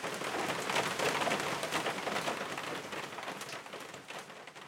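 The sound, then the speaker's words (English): Steady rain patters at night on the old tin roof of a hut, a dense, continuous hiss of countless small drops with faint sharper ticks scattered through it, evenly loud from start to finish. “we drifted to sleep, cozy in our down bags, to the patter of rain on the old tin roof.”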